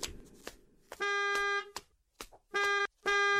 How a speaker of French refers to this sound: Ah là là, encore un Gugus qui klaxonne. Mais c'est pas la voiture de l'auto-école ?